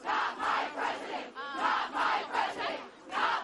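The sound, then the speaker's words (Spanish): Thousands of protesters in front of Trump Tower in Manhattan, New York, the day after Donald Trump's election, chant "No es mi presidente" ("Not my president") in unison, loud rhythmic bursts of many voices repeating the phrase, with a brief shrill whistle cutting through midway. “Una de las más multitudinarias ha sido la de Nueva York, donde miles de personas se han concentrado frente a la Torre Trump de Manhattan al grito de "No es mi presidente", una consigna que se ha reproducido en el resto de las marchas.”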